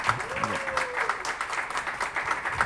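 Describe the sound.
An audience applauds steadily, a dense wash of many hands clapping at a moderate level, with a brief voice gliding through at the start.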